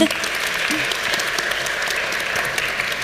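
A crowd claps steadily for about three seconds, a dense, even wash of many hands with no clear pauses, holding a fairly constant loudness throughout.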